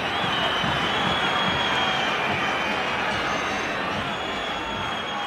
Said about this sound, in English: And this is when the crowd just starts whistling and heckling.